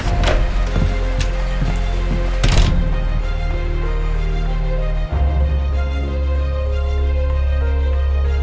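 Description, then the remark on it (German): Heavy rain pours down in a steady, dense hiss, with a few sharper gusts of spatter early on and a deep low rumble underneath throughout. “Es schüttet, als würde die Welt untergehen.”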